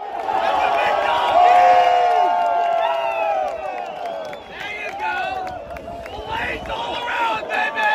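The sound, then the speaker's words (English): A crowd of Bryson DeChambeau's golf fans cheers and shouts loudly and continuously, with many overlapping voices and rising whoops and yells layered over a steady roar, staying energetic for the whole stretch. “Well, let's hand the floor briefly to those Bryson DeChambeau fans.”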